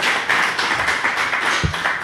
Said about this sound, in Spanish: ¿Qué tal? Aplauso, aplauso ahí.